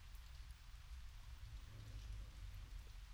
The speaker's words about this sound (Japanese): この雨はどんな嫌な思いもやましい心もきれいに浄化してくれる。